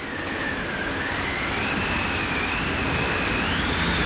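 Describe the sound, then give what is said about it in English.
A loud, continuous roar of airplanes flying past, with a steady rumbling drone and a high engine whine that wavers in pitch and swells slightly toward the end. No one speaks. “These were planes that went by.”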